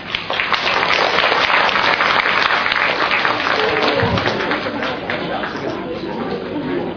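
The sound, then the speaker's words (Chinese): Sustained audience applause in Los Angeles, USA, welcoming Dr. Xu Tianshun onto the stage: a dense, steady wash of many hands clapping that stays loud and even for several seconds, with no voices standing out above it. “现在呢，我们也让掌声来欢迎许天顺医师出场。”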